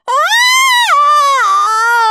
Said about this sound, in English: Howled Peter.